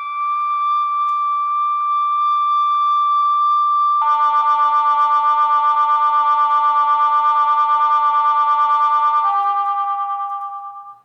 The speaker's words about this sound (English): Here's a simple sine wave. First you'll hear one note and then another note added to it. But these are tones that are pure. They have no pure overtones. It's like a tuning fork.